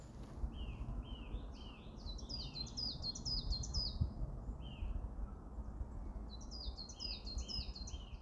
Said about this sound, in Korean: …의 … 들으면서 마무리하겠습니다